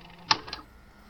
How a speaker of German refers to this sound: Halt, stopp! Ich spule noch mal einen Ticken zurück.